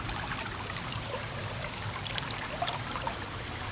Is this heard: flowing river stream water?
yes